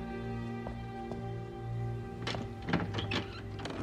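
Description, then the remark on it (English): A door opens, revealing a safe, with a few mechanical clunks and rattles over a steady low hum, the handling noises bunched near the end with no one speaking. “opens the door, revealing the safe.”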